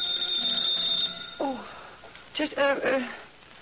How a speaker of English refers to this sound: And my doorbell rang.